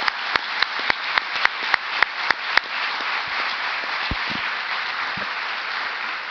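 An audience breaks into applause, opening with a few sharp, rhythmic claps that quickly merge into a steady, dense wash of clapping that holds at an even level to the end.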